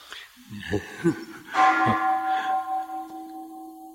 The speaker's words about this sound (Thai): ใครได้ยินเสียงระฆังแล้วน้ำลายไหลบ้างมีไหมไม่มีเลยไม่ยอมไหลไปกินข้าว